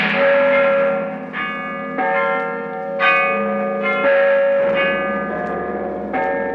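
Several large bells ring loudly in an overlapping peal, each strike arriving roughly every second with long, rich resonant tones that hang and blend together. No voices are present.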